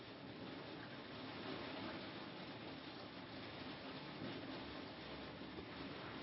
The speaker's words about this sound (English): Okay, boy, I don't know if you can hear that rain, but it's coming down heavy. No lightning, no, that's wild.